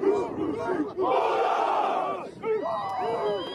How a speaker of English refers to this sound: This is them all clapping for the last two pilots and then dumping Gatorade on them and doing a little bit of chanting.